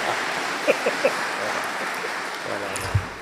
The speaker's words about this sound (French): Tu t'applaudis toi-même comme dans les millions sur le vitri.